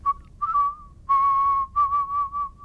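A musical whistler whistles a short melodic phrase, clear pure-toned notes held and gliding, broken by brief pauses between phrases. No one speaks.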